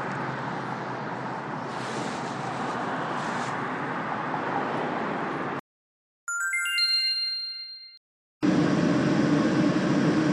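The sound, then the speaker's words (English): A Portland streetcar chime rings once on board a CL line car to OMSI, a bright cluster of bell-like tones that fades over about two seconds, set between stretches of steady rumbling vehicle noise. “This is the CL line car to Omsi.”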